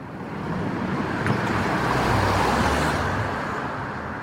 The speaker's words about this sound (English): But no, he backs out of his driveway in a four-wheel internal combustion automobile.